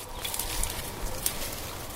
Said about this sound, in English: 7 male blackbirds in this tree, and they're all singing very softly. They're not really becoming territorial yet. They're just kind of warming up and getting ready for finding territories and establishing them with their songs.